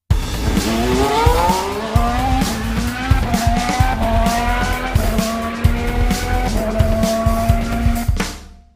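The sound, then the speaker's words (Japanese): A short break jingle built from motor racing sounds: loud engines whine up and down in pitch, tires squeal and skid, with no talking, before it cuts off abruptly after about eight seconds. “それじゃああれですね、じゃあこの次はちょっと休憩ジングル挟んで鈴鹿の話をしましょうか。”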